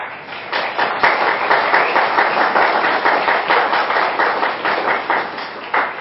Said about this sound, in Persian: من استدعا می کنم سخنرانان رو یه تشویق جدی بفرمایید.